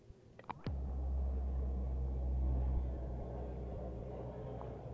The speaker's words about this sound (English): That's one of the planes taking off. I don't know if you can hear it very good or not. About every 5 seconds or 10 seconds, there's a plane leaving out of here. We got some F-100s here, buku of them, which is a lot of them, and we got some Phantoms.